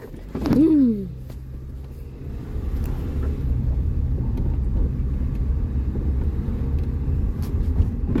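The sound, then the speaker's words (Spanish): A pickup truck engine revs briefly near the start, then settles into a steady, low rumble that continues throughout as the vehicle drives. “Vamos a comprar y comer, pero en vez de eso compramos una troca.”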